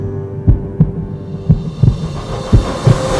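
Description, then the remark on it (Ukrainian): A deep heartbeat pulse effect in a song thuds in steady lub-dub pairs about once a second, loud, over a low humming drone with a faint hiss building underneath. “Ось пульс.”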